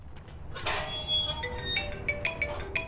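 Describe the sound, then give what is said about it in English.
A metal gate clanks, its hinges squealing in high ringing tones, followed by a series of short metallic creaks and clinks over a steady low rumble. “So I found and used a different gate recording instead.”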